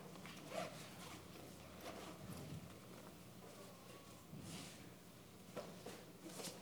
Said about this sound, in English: Ooh, that zipper's tough.